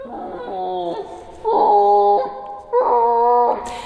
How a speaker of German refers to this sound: Erst bei stark verlangsamter Geschwindigkeit werden sie hörbar. Die Rufe der Affen klingen dann ähnlich wie Tarzanschreie.